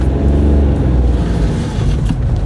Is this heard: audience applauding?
no